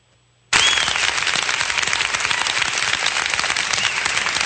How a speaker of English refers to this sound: Now, that is the school board meeting of September 12th. Well, so why are they cheering? Why are they cheering?